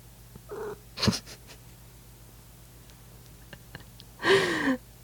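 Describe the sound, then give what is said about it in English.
A cat named Daisy meows at the microphone, a short meow early and a longer, louder one near the end, with a breathy burst of sniffing the mic between and a faint low purr-like rumble underneath. “Daisy, say meow.”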